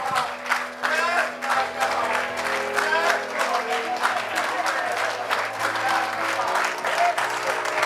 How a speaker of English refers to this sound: Somebody just clap your hands for a moment.